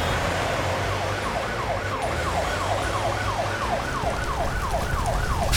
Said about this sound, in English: Wait, that siren. It must be Elsa.